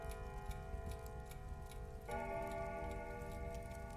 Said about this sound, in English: a big clock chimes on the wall.